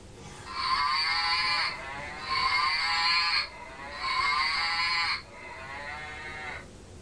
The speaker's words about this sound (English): He's making two moos, isn't he? Oh no, that's what it is. Look, it's this one here. I didn't realise he did it as well. You've got to squeeze him there. Look, squeeze his leg.